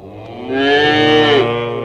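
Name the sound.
cow mooing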